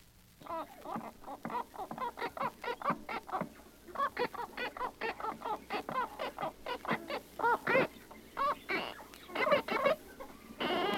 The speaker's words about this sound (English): Listen to Marmaduke, a half-moon parrot, learning his first two words, cookie and gimme kiss.